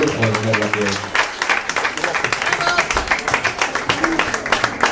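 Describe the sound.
A crowd claps steadily in dense, sustained applause for several seconds, with a brief held tone or voice at the start beneath the clapping.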